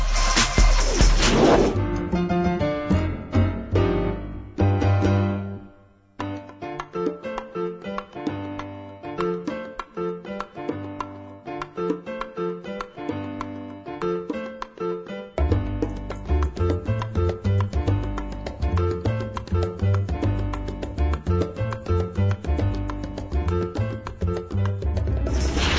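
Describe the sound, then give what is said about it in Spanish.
A full instrumental music interlude during a break in the radio program Momento Económico plays steadily with a strong bass line and layered melodic parts, briefly thinning out around the middle before building back up. No voices are heard. “Bien, vamos a hacer una breve pausa musical y regresaremos.”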